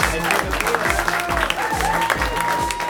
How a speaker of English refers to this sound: Let's start applauding right now for Jenna Brister, everybody.